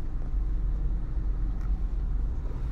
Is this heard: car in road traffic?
yes